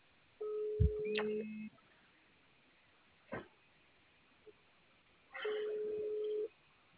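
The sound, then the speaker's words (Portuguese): A video call ringing tone as a video call is placed to show an operations centre: two steady, mid-pitched electronic tones about a second long, spaced several seconds apart, with a few faint clicks and bumps in the quiet gap between them. “vou fazer uma chamada de vídeo aí para mostrar nosso centro de operação aqui. Só atende aí.”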